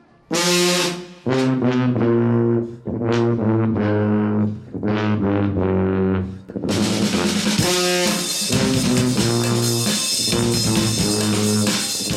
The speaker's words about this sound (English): That's the …. They're just one of the 28 alternative marching bands represented here.